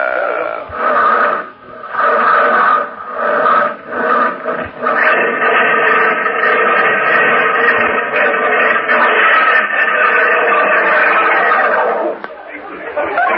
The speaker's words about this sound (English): how'd you like the sound of that Stutz Bearcat engine under the hood there? You know what? It sounds like the bear's trying to claw its way out to me. Tell me this. How come it stalled like that?